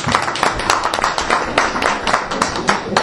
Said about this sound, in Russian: Друзья, аплодисменты.